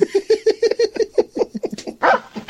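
A dog barks and yips in a rapid, rhythmic string of short vocal bursts, fairly loud, ending with a harsher, breathier outburst; no one speaks.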